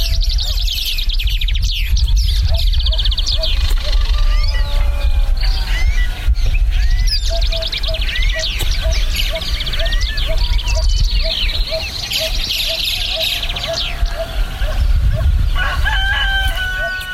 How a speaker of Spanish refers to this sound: Así suena la ribera del Río Verde en la comunidad de Paso de la Rey.